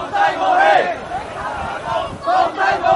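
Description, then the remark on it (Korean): Student protesters at a political rally in the streets of Hong Kong shout slogans in loud, rhythmic bursts, voices rising and falling together in repeated chants over a steady background of crowd noise. “대부분 학생 시위자들은 정치 집회에 모여서 구호를 외치거나 시위대를 해산시키려는 경찰과 대치하면서 하루를 보냅니다.”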